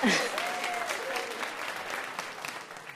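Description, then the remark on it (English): Steady applause from an audience, a dense patter of many hands clapping at a fairly even level throughout, with faint voices and a brief whoop mixed in at the start. “We'll clap for that. You can clap for that, yes.”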